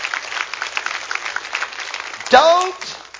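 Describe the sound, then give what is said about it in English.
An audience clapping as a clap offering to the Lord, in a dense, steady patter of many hands, with a loud voice breaking in near the end with a sliding cheer as the clapping carries on. “Would you come on, give the Lord a good clap offering.”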